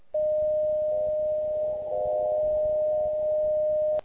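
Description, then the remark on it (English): A steady, pure beat-note tone from a shortwave carrier holds unbroken for about four seconds over a faint hiss of receiver noise, starting and stopping abruptly. “You will hear a beat note of about 600 Hz from the WWV carrier in this demonstration.”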